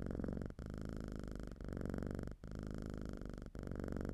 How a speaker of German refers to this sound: Ein Katzenschnurren haben wir gehört.